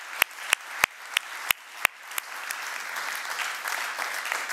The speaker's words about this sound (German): Also ich bin happy dafür, wir dürfen Gott einfach mal einen Applaus geben und sagen, danke Jesus.